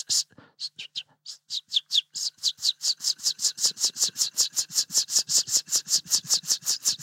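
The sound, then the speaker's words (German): A river warbler, an eastern species, sings a dry, whetting buzz of rapid, evenly repeated strokes, starting hesitantly and then settling into a steady, insect-like pulsing rhythm, clear with no voices. “Und wie ist es mit dem Schlagschwirl?”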